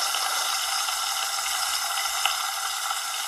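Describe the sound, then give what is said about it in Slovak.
A steady hiss of bacon sizzling in a frying pan, dense and crackly throughout with one slightly sharper pop near the end, and no voices. “Opekanie slaniny.”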